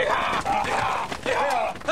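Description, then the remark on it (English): Cattle from the Mexican interior low in a steady chorus in Chihuahua, Mexico, as they are readied for inspection before crossing into the U.S. Several drawn-out moos overlap one after another, their voices sliding in pitch and staying loud throughout the two seconds, with no talking. “That's a sound that's been sorely missed here in Chihuahua. Cattle from the Mexican interior are readied for inspection before crossing into the U.S.”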